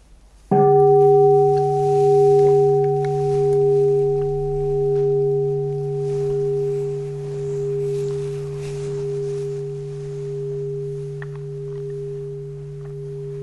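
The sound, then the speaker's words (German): A single meditation bell is struck once and rings out alone, its steady, pure tones sustaining and slowly pulsing as they fade gently over more than ten seconds. “Und bevor wir dann zum vierten und zum Buddha-Natur kommen, hören wir nochmal eine Glocke.”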